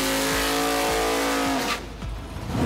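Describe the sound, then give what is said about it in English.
A Top Fuel dragster engine roars at full, deafening volume with a harsh, buzzing drone, then cuts into a rougher, crackling rumble as the tone drops away partway through. “A slightly more fun way to experience extreme sound is watching Top Fuel drag racing vehicles do their thing.”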